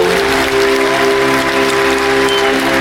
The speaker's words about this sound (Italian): Sono presenti in aula quasi 500 studenti. Appena viene proclamata dottoressa in legge, questi scoppiano ad applaudire fragorosamente.